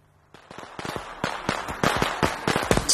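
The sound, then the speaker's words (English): Fireworks crackle and pop in a rapid, irregular string of sharp bangs that grow denser and louder over a few seconds, with no one speaking. “Just after the fireworks.”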